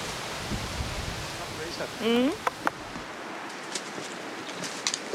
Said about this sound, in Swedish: Oh, nu hör vi havet.